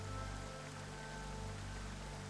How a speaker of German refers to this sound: Du hörst die Geräusche des Wassers ganz gleichmäßig, aber nie gleichförmig. An deinen Beinen spürst du weiterhin das sanfte Strömen des Flusses.